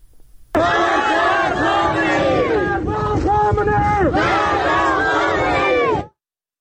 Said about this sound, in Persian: در خاش شهر دیگری در استان سیستان بلوچستان تظاهر کنندگان علیه رهبر جمهوری اسلامی شعار دادند.